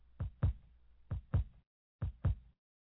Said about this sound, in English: That's God's heartbeat.